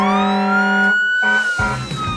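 A fire engine siren on Marshall's fire truck, sounded to make noise, wails loudly with a steady, slowly rising tone and strong harmonics, briefly breaking off before a second blast joins with a rougher, lower rumble underneath.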